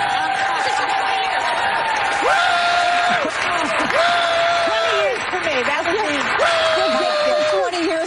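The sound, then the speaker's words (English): Loud studio audience applause on the talk show The View fills the whole stretch as a steady dense roar of clapping, with cheering voices and rising whoops riding on top throughout. “And here's the kind of line that just gets wild applause on The View.”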